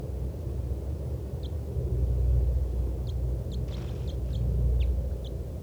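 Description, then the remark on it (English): A caged bird beneath a lodgepole pine gives a scattered series of short, high flight calls, about eight quick chirps, fairly faint against a steady loud low rumble of wind or traffic. “That was 411 giving flight calls.”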